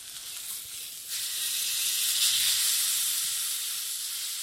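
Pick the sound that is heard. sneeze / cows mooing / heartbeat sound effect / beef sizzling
beef sizzling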